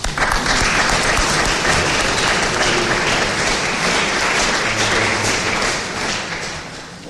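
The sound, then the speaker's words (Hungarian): An audience at the end of a church Mass applauds steadily in advance for a priest about to say a few words, a dense, even wash of many clapping hands that holds loud for several seconds before easing off slightly at the end. “Én nagy tapsor előre is, jó?”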